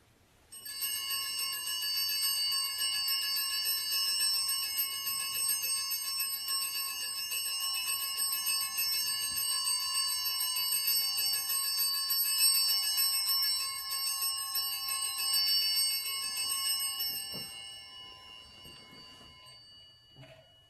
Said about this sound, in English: And now while the priest is blessing the people, the server will ring the bells.